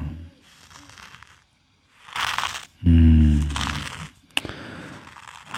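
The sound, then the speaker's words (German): A hoe scrapes and chops at the ground in a few rough, gritty strokes, with one sharp knock near the end and a short low tonal sound between strokes. “Die Eule höre ich nicht, aber ich höre jetzt hier die Hake.”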